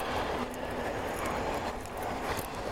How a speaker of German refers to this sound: Wieso eigentlich schon wieder eine U-Bahn?